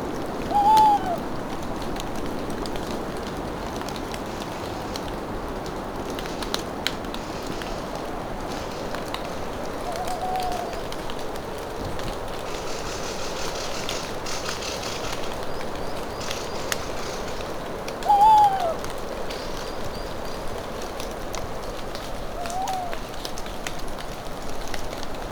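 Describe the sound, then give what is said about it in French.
A mountain torrent rushes in a steady, full roar, with scattered water droplets ticking and two brief bird calls, one near the start and one later on. “semble s'entrouvrir en compagnie de la subtilité de ces sons, des gouttelettes d'eau, des oiseaux, le bruit de fond du torrent.”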